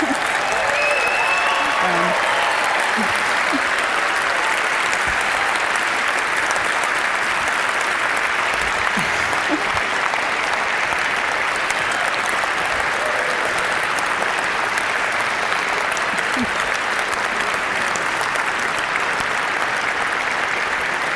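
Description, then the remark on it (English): Steady, loud applause from an audience at a talk, given for the speaker's student who is behind the sixth-sense device being presented. A dense wash of clapping holds at an even level for about twenty seconds with no talk over it. “He does deserve a lot of applause because I don't think he's slept much in the last 3 months, actually.”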